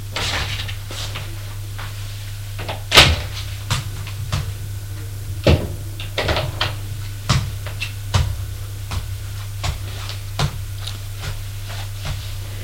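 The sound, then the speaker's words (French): A series of sharp knocks on a door, spaced irregularly, some firmer and some lighter, over a steady low electrical hum with no voices. “On a frappé à la porte.”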